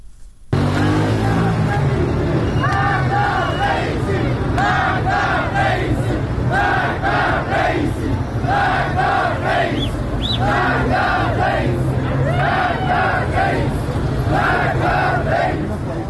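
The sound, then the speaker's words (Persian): A large crowd of protesters in Iran chants in rhythmic, repeated bursts of shouting, voices rising together every second or so over a steady low rumble of traffic and street noise, during Sunday-night protests in cities including Shahr-e Kord and Sureshjan in Chaharmahal and Bakhtiari province and Kazerun in Fars province. “گزارش ها از ایران هاکی است که اعتراض های مردمی یک شنبه شب در برخی شهرها از جمله در شهر کرد و سورشجان در استان چهارمحال بختیاری و همچنین کازرون در استان فارس ادامه یافته و نیروهای امنیتی در مواردی با تیراندازی اقدام به متفرق کردن معترضان کردند.”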